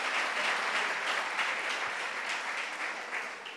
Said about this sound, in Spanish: Un fuerte aplauso para Francesca. Un forte applauso per Francesca.